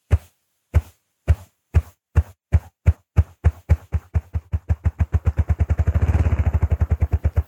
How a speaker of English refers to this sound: Listen for a moment to this remarkable drumming of a ruffed grouse.